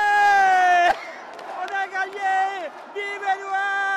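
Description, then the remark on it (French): A loud crowd in a hall in Le Havre, France, cheering Prime Minister Édouard Philippe's re-election, with cries of joy mixed with insults from opponents: overlapping voices, long sustained high-pitched yells and a sharp burst of noise about a second in. “Les cris de joie se mêlent aux insultes des opposants, mais lui s'en moque, c'est gagné.”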